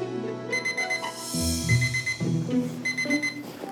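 alarm clock ringing

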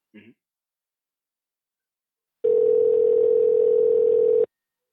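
phone ringing tone

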